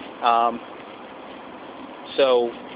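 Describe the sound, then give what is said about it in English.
A tractor-trailer's engine brake blats out in two short, throaty bursts a couple of seconds apart, rising over a steady background rumble of road noise. “You hear a tractor trailer here. with his jig break on.”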